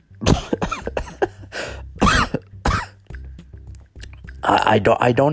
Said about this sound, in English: I don't have it. So, don't think that I do. It's just that I was choking on my own saliva right there.